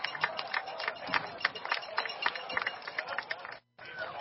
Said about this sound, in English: Well, there's a lot of people cheering for him. I guess they remember him from Simpson.